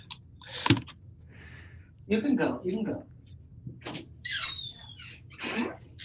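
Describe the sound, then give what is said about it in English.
A kitten named Joan meows loudly several times in a row, high-pitched rising and falling cries with short pauses between them, heard on their own without any talking. “All right, Joan, you're going to have to leave because you're meowing really loud.”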